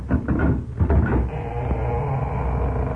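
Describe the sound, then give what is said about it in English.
A door is opened as someone arrives, with a quick cluster of clicks and rattles from the latch and handle, then settles into a steady low hum with no voices. “Wait a minute. Maybe somebody's coming to the door.”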